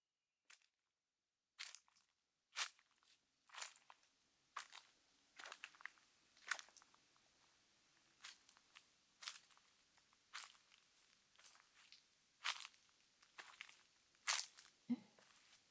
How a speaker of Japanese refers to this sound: そう、森の中を歩く音だね。もっと言うと、街中から離れたところって言えばイメージしやすいかな。